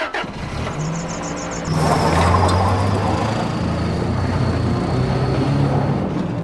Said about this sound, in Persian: جنازه رو از ماشین میندازه بیرون، میشینه پشت فرمون، میره.